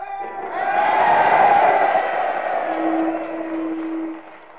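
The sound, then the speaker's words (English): A large crowd at a school roars with a mix of cheers and shouts that could be boos, swelling quickly, holding loud for several seconds, then fading; one sustained low-pitched yell rings out near the end. “I don't know whether that's a boo or a cheer”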